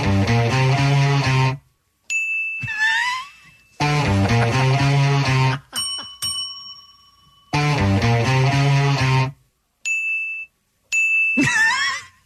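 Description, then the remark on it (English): A real front desk bell rings with bright, sharp dings several times, trading off in dueling fashion with bursts of a loud digital recorded guitar riff in a back-and-forth pattern. The dings ring out briefly before fading. “Mine's an actual, like, front desk bell.”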